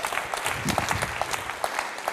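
A crowd applauds steadily, many hands clapping in a dense, even patter of sharp bursts that holds at a moderate level throughout without any voices on top.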